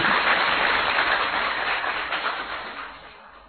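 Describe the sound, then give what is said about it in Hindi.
A large audience applauds for themselves in a dense, continuous wash of clapping that holds steady and then gradually fades away toward the end, with no voices heard. “अपने लिए ताली बजाओ वाले।”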